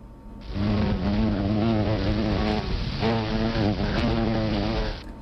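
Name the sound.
bumblebee buzzing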